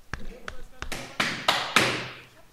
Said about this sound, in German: Klopfen wir uns auf die Schulter. Ja, jetzt sofort.